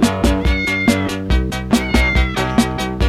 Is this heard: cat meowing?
yes